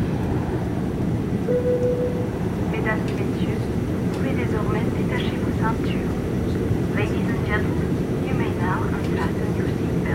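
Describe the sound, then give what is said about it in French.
An airplane in flight on the 15:30 Berlin–Geneva flight: a loud, steady low engine drone fills the whole stretch without letup, while indistinct voices murmur intermittently on top of it. “Vol Berlin-Genève, 15h30.”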